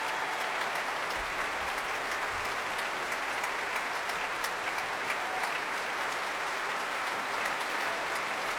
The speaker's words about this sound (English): And Ivan Fischer applauding our soloist now, along with all the members of the orchestra.